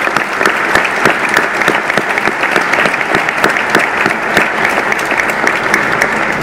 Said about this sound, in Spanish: Bueno, ya me prendieron la luz, pero pido que les ofrezcamos un aplauso a todos los miembros de la Academia.